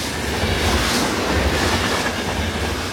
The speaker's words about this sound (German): Vor ein paar Wochen begann der Tag bei vielen mit einem Starten der Autozündung. Einem einfahrenden Zug.